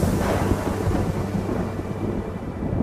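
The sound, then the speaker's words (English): A heavy rainforest rainstorm roars steadily with a deep, low rumble of thunder underneath, loud throughout, with no voices. “They're native to the rainforests of Central and South America, and with rainforests comes rain. Lots of it.”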